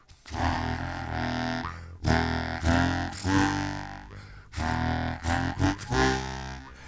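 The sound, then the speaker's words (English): A bass harmonica, which has long reeds and can only be blown into, plays several short phrases of deep, buzzy, sustained reed notes with brief pauses between them, fairly loud, with no voices. “… decided to use a bass harmonica on a couple of their songs.”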